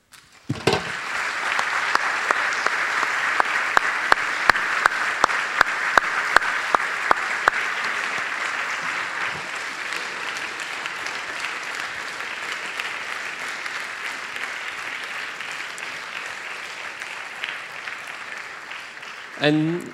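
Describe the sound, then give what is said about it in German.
Sustained audience applause for the choir, orchestra and performing groups lasts nearly twenty seconds, dense and steady with sharp individual claps standing out early on, then gradually thinning toward the end. “Und als Respekt für eure Arbeit ist ein Applaus fällig, oder?”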